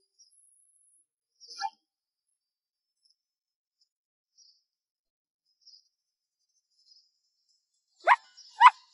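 Two quick, high yips from a small lost dog close together near the end, after a faint short chirp earlier, with near silence between and no talking.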